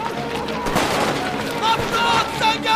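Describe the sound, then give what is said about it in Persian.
Several gunshots crack out in a noisy, chaotic scene as English soldiers open fire, sharp bursts of gunfire ringing over a dense wash of background noise, with indistinct voices in the mix. “سربازای انگلیسی تیراندازی میکنن.”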